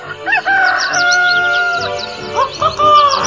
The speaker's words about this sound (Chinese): 大公鸡，早安啊！你起得真早啊！